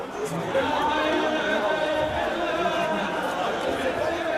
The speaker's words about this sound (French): Ce vendredi-là, en effet, pour la grande prière de 14h, une foule impressionnante se presse pour accéder à la mosquée. La plupart restent sur le parvis et débordent à l'extérieur dans les rues adjacentes.